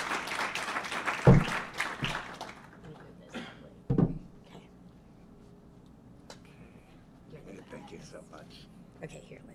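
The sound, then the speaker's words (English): An audience applauds loudly for about two seconds as a speaker is invited up to share some words, then the clapping tapers off into a few scattered claps, quiet shuffling and faint voices. “So now please come up and let us give you a big round of applause and share some words of wisdom with us.”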